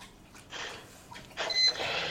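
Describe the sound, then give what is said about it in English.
A dog lapping water from a bowl, two stretches of quick, wet slurping, fairly soft, with no voices over it. “Can you guys hear the dog drinking water right now? We can, for sure.”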